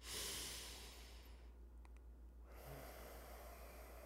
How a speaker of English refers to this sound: Why are you able to take a breath right now? Are you aware of the complex processes that keep just the right amount of O2 present in the atmosphere? Are you even appreciating the experience of breathing?